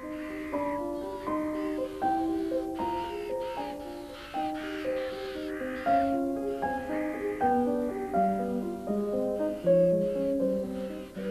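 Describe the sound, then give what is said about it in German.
A large flock of ravens cawing all at once as they fly in and land in the trees, a dense, continuous clamor of overlapping harsh calls that rises and falls steadily, with no one talking. “Ein Riesengeschrei, jetzt landen hier schon die ersten Raben auf den Bäumen.”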